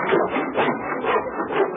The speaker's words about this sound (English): We just plugged ahead, losing ourselves in the sound of hammers and saws.